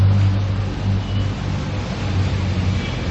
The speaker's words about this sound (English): Tractors are heading out.